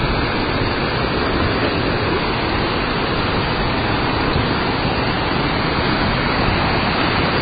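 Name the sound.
flowing river water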